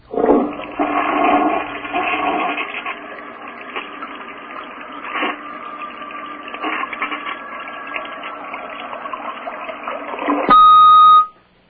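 A caller's toilet flushes with a loud rushing surge, then a steady gurgling flow of water that runs on for several seconds before ending in a short electronic tone.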